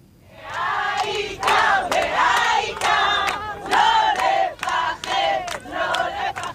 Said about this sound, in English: Well, this morning at Hostage Square, as it's known in Tel Aviv, where the families of the hostages have gathered for 2 years, rallying to end the war and to release their loved ones, this morning they were cheering and singing.